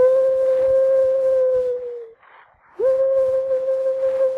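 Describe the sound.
A person imitates a bird call with two long, steady, mid-pitched hooting tones. The first dips at its end, and after a short pause the second swoops up and holds.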